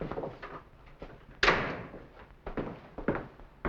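The front door of a villa opens and shuts with a loud thud midway as a man comes in, its sound trailing off, surrounded by a few softer knocks and rattles. No one speaks.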